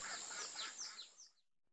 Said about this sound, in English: Hi, bird.